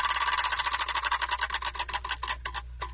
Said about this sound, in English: Spin the wheel and see what we got.